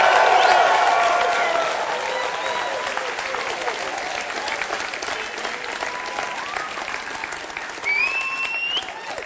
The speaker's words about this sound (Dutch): En hier is weer een grote overwinning gehaald op onze aartsvijand. Dus ik stel ook voor dat wij gewoon even gaan juichen om die overwinning.